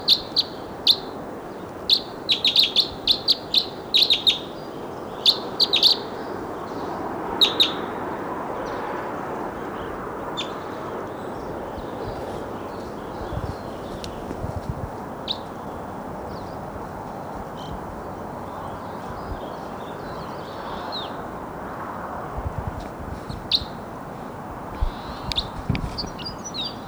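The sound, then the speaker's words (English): Bursts of bright, high chirping song of a wild crossbill perched atop a tall lodgepole snag come in quick clusters, loudest in the first ten seconds and then more scattered, over a steady low background rumble. “Wild crossbow song.”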